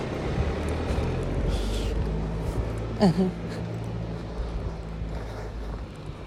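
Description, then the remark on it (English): A car with a steady low engine rumble, and one short sharp clunk and squeak about halfway through, like a car door as a man gets into his car. “There was a guy getting in his car, and I was about to talk about him, but his wife was, like, hanging out of the door, waiting, so they must have thought I looked so weird.”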